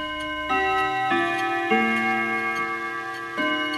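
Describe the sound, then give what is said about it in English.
A wall clock in the old station master's house in Bampton, beside the former Exe Valley railway line, strikes a series of resonant, ringing chimes that overlap and sustain, with faint steady ticking underneath. The tones are clear, with no voices. “I guess over 50 years ago, we wouldn't be able to hear the sound of the clock chiming on the wall of the station master's house, literally outside of where the old Exe Valley line used to run.”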